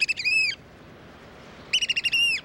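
American oystercatchers, crow-sized shorebirds, at Cape May, New Jersey, as the tide falls, give two bursts of loud, piercing, repeated whistled calls, each a rapid series of sharp high notes, separated by a second of quiet background hiss.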